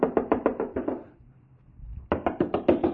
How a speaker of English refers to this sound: But Peter continued knocking, and when they'd opened the door and saw him, they were astonished. Now, just a minute. Peter's out there knocking.